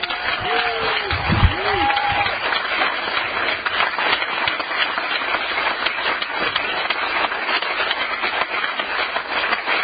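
An audience applauds steadily for about ten seconds, a dense, even wash of clapping with a brief cheer near the start and no pause.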